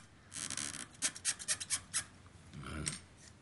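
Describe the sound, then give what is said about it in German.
Squeaky rubbing of polishing with diamond paste applied on a piece of boxwood to smooth the surface: a rapid series of about seven short, rhythmic strokes with a bright, scratchy edge, then a longer grinding rub. No one speaks. “Wenn es so quietscht, ist das ein gutes Zeichen. Das zeigt, dass die Diamantine gut greift.”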